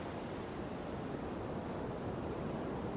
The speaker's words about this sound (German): Du liegst an einem schönen warmen Strand. Es ist sonnig. Im Hintergrund hörst du, wie Wellen gegen den Strand schlagen.